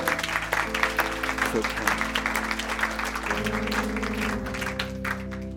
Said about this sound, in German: Hey, lass uns doch einen Applaus geben für all die Leute.